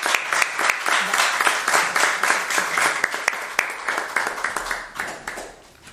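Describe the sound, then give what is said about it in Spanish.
Sustained audience applause for a person being honored with a diploma at a gathering, a dense crackle of many hands clapping steadily for several seconds, fairly loud throughout before tapering off slightly at the end. “Y un fuerte aplauso porque se lo merece.”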